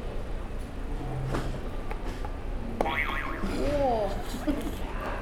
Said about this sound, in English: Do you want to press a buzzer for me?